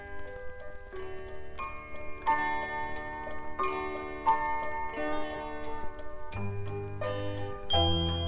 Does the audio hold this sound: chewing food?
no